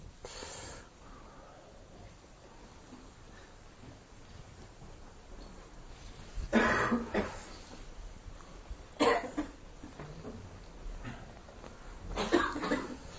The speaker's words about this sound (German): Übrigens, das ist ein gutes Zeichen, wenn man hustet. Dann lösen sich Spannungen.